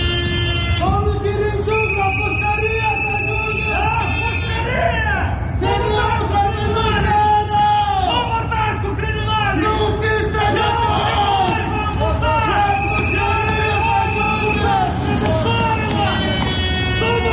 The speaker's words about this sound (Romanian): Tocmai ați auzit strigătele ce se auzeau în preajma intrării din spate în clădirea Parlamentului în momentul în care deputații și miniștrii din noua garnitură veneau la ședință, fiind întâmpinați acolo de câteva grupuri răzlețe de protestatari.